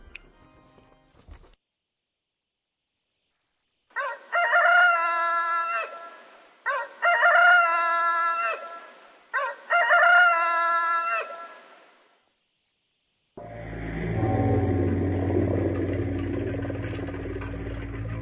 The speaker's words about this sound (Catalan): De nit, dalt del cimbori, hem sentit cantar el gall.